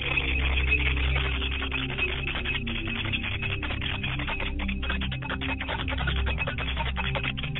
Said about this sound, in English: As I ring this bell, may they be reminded to come as I call their names one by one.